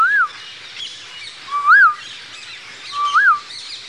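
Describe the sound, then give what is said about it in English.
Three clear, rising-and-falling whistled notes, spaced about one and a half seconds apart, imitate the call of an Asian koel over a soft, steady background hiss with no talking. “But here is this kokila. And he makes many, he has five different songs he sings.”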